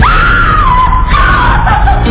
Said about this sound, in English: When a woman got up to go to the bathroom, he'd run up and hide behind the bathroom door. In a minute, we'd hear this god-awful scream.